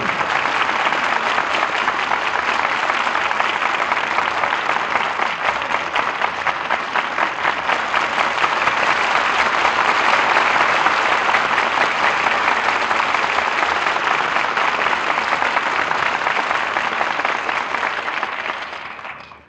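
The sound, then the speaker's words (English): Sustained audience applause for the stars of The Suspects, Charles Lawton, Ella Raines and Rosalind Even, a dense steady wash of many hands clapping at a fairly loud, even level for about eighteen seconds before quickly tapering off. No voices stand out. “Deserved applause for our stars who have made the suspects so exciting an experience.”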